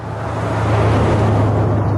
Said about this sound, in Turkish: Kırmızı eski model bir araba önünde durdu.